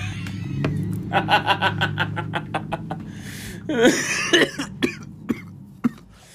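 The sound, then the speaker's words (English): A run of rapid, rhythmic throaty pulses gives way to several sharp coughs spaced about half a second apart, over a low background hum. “Excuse you. That was a cough.”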